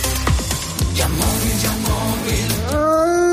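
wolf howling

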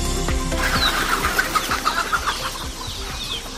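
chickens clucking

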